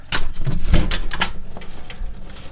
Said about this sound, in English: And we're going to go out the back door.